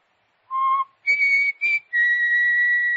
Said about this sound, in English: I just whistled. That's all.